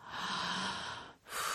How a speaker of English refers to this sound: Your breathing is getting more intense. Ah, and more intense.